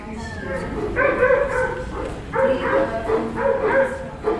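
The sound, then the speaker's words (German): Several dogs at the Berlin animal shelter, the largest in Europe, bark and yelp in repeated overlapping bursts, fairly loud, with higher whining cries mixed in against a busy, reverberant background. “Thilo Schmidt berichtet aus dem Berliner Tierheim, dem größten in Europa.”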